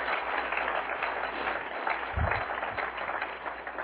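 An audience claps in a steady, dense wash of applause lasting several seconds, with a brief low thump partway through and no voices standing out.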